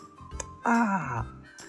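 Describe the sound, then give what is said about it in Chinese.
A voice imitates a baby crocodile's wet, sloppy kiss for its father: a short lip smack, then a loud, drawn-out smooching "mwah" that slides downward in pitch, followed by another faint smack. “鳄鱼宝宝可是会给他爸爸一个爽爽的潮潮的吻哦，像这样。”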